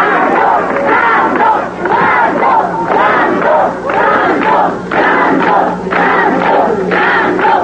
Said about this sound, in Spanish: Después vinieron las porras y aplausos para el que fuera el más grande de los luchadores.